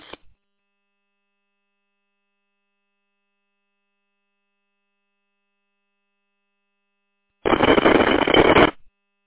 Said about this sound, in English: All I heard was static and then the response beep.